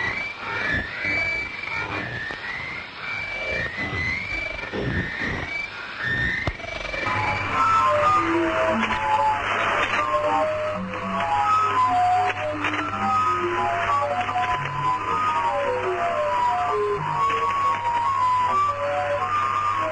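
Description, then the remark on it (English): A warbling, whale-like shortwave radio transmission, currently active and suspected to be from the United States Navy, of rising and falling tones over hiss, shifting after a few seconds to a steady low drone with scattered bleeping chirps; continuous and fairly loud, no voices. “they call this one the Backwards Music Station or Whales”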